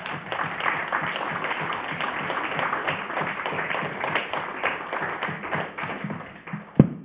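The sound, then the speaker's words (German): An audience applauds a speaker's contribution steadily for several seconds, a dense crackle of many hands clapping at once, with one sharper, louder clap or knock near the end. “Und jetzt gerne einen Applaus.”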